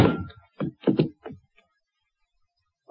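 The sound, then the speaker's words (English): A heavy, dull thud of a blow to a person's head lands first, followed by a few quicker muffled knocks that fade out, fairly loud, then near silence. “I hang up the phone and start to turn around just in time for whoever sneaked in behind me to lower the 6 o'clock boom. I feel the thud.”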